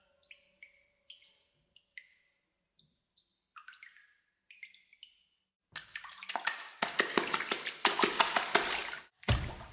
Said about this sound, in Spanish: Y el agua también puede ser y es un instrumento musical.